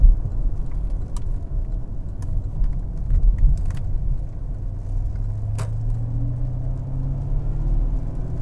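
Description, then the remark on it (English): A car engine rumbles steadily from inside the vehicle, its low drone rising in pitch as it accelerates along a road in the backwoods of Langley, with a few faint clicks and ticks over the top. “Listen to that. Feel that power. Oh, it's got just acceleration just feels so nice.”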